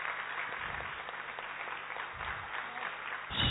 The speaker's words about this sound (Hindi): इसलिए एक बार उस आदि पिता, जगत पिता ब्रह्मा बाबा के लिए दिल से सभी लोग तालियां बजाएं और उनका धन्यवाद करें।